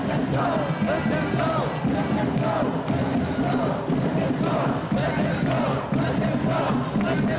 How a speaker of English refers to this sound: They're pulling people away. I hear people screaming. They say their eyes hurt. It looks like people are in pain.